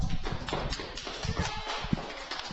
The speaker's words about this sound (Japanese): あ、じゃあ拍手。